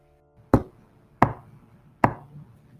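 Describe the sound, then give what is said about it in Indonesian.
Three sharp, evenly spaced knocks ring out about two-thirds of a second apart, each a loud percussive strike with a brief resonant tail over a low background hum. “Aku bisa menjadi gila apabila aku terus mendengar suara ketukan ini.”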